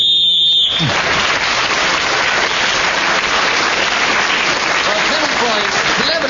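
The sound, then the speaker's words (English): A single shrill, steady whistle blast lasting under a second, blown to end a round while a speaker is talking, quickly swallowed by loud, sustained applause and cheering from a crowd, with a few voices audible beneath. “He gained this point for speaking when the whistle went.”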